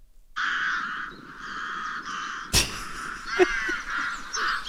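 A played recording of harsh, raspy crow-like bird cawing calls running almost continuously, fairly loud, broken by a sharp thump partway through, with no one talking.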